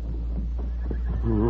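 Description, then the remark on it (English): A horse, roped with a lariat by the Lone Ranger and brought to a stop, gives a short, wavering whinny near the end, fairly loud, over a steady low rumble and a few faint shuffling sounds. “Quickly, the Lone Ranger crawled through the fence, and in a moment had roped the horse with his lariat and brought him to a stop.”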